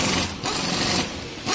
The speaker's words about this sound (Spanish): Una máquina taladradora.